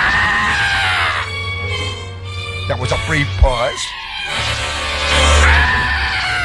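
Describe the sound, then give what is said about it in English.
A boy screams in a tantrum, throwing a fit: loud, shrill, drawn-out wails at the start and again at the end, broken by a short spoken line in the middle. “And then I heard the muffled sound of my mother say, "He's throwing a fit. He's having a tantrum.”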